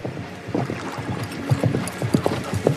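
Horse hooves galloping up at dawn as a rider arrives at a group of men, a quick run of hard clip-clop strikes that grow slightly louder toward the end, with no talking.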